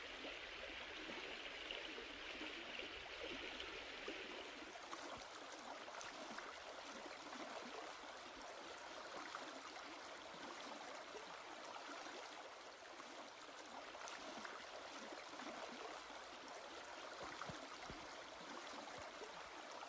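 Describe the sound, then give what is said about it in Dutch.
A babbling brook flows steadily, its water trickling and gurgling in a continuous wash of sound with no voices, shifting slightly in tone after the first few seconds. “Langs een beekje in je nabijheid.”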